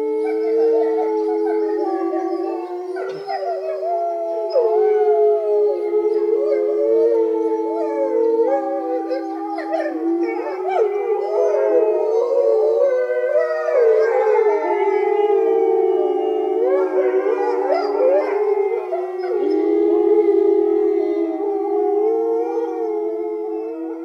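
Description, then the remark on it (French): Wolves howl together in a steady chorus, long wavering cries rising and falling over one another without pause, fairly loud, with no talking. “Je suis le loup !» hurla l'animal.”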